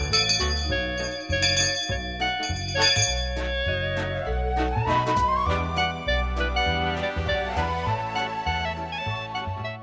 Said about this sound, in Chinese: 每当听这个铃声的时候呢，特别感到亲切，也非常的高兴，知道收音机旁边很多的人在等着上课。